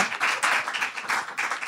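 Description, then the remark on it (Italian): A crowd applauds, a dense, steady wash of many hands clapping at once with a slight rolling swell, fairly quiet and with no voices over it. “Applauso.”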